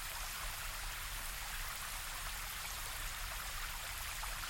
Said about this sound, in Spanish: Cuando llegas ahí, ves frente a ti una enorme cascada.